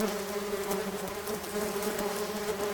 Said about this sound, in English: So now there's like about 500 bees. They're all around my face and on my mouth.